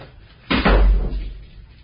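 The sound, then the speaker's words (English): A heavy metal cell door clanks and swings shut with a deep, booming slam that rings briefly before fading, loud, with no voices. “Stand back from the door!”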